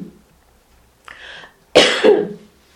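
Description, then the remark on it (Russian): A soft, raspy throat clearing is followed by a louder two-part cough from a person whose throat has been sore for the last few days, both isolated, with quiet pauses and no talking around them. “Пытается изображать из себя чуть-чуть кашляющее.”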